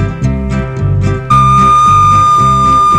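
A loud, sustained whistle blast cuts in partway through and holds steadily to the end, sounding over rhythmic background music.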